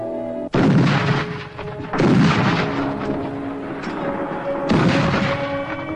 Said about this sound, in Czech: 1. září roku 1939. V Polsku se místo školních zvonků rozezněly sirény, kulomety a děla.